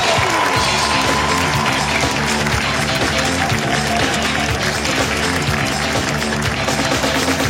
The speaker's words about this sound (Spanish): Y que siga el aplauso.